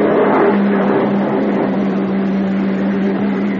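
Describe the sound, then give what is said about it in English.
A uniformed police car's engine rumbles with a steady, loud hum as the vehicle pulls up and slows, no voices heard. “Uniform car pulling up.”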